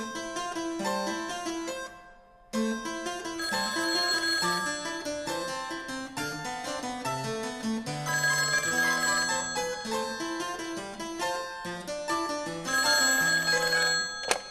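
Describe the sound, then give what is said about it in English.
A telephone rings with bright, bell-like tones in a busy, musical pattern, loud. It breaks off briefly near the start, then keeps ringing steadily with no voices. “But you know, Patrick, you're not the first classical musician to make prank phone calls.”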